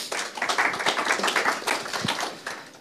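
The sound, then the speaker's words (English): A crowd applauds steadily, many hands clapping in a dense, continuous patter that stays fairly loud throughout without any talking over it, a last round of applause to thank a speaker at the end of a presentation session. “One round, last round of applause.”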